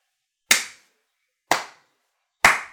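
A slow clap: three sharp, loud handclaps spaced about a second apart, each with a brief ringing tail, and no voices.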